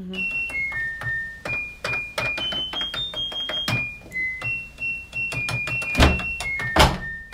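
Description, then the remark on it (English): A washing machine's electronic beeper, used by music producer Kurt Schneider to play a pop song, plays a quick tune of high, pure tones stepping up and down, with sharp clicks and thumps between notes and a couple of louder bursts near the end. “It is a washing machine.”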